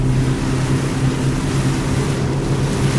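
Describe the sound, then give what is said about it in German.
A small navy patrol boat with room for a crew of four is tossed back and forth by the waves, its engine droning steadily with a low hum layered with a continuous rush of wind and water slapping against the hull. No one speaks. “Die Nussschale wird von den Wellen hin und her geworfen.”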